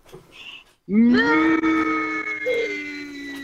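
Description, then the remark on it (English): A caller and her kids, on a phone put on speaker for a radio show, imitate a cow with one long, loud, low moo that rises at the start, then holds a steady droning pitch and slowly fades over a few seconds. “Oh, look, I've got the kids in bed next to me, so we might put it on speaker and all moo together.”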